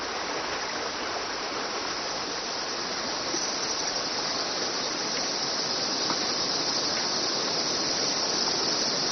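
Steady, dense rush of a river flowing through a cave fills the whole stretch, a loud continuous roar of churning water with an echoing wash and no speech.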